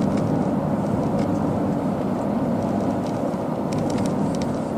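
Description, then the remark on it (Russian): A steady, loud roar of traffic on a busy highway, cars rushing past continuously with a dense low rumble and faint higher tire hiss, no voices. “А машин много, потому что люди приезжают на отдых и на бережку посидеть.”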